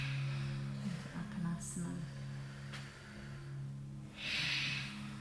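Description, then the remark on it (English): Heavy, effortful breathing during reverse crunch abdominal exercises, with a loud exhale near the end, over a steady low droning background tone. “Lovely breathing.”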